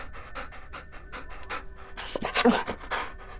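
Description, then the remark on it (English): A dog pants rapidly and steadily, a quick rhythmic series of breathy huffs that grows louder and rougher toward the end. “Come here, doggy.”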